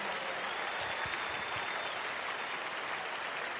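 A church audience at a convention claps steadily for people coming forward, in a dense, continuous wash of applause that holds at an even loudness for several seconds, with no voices standing out.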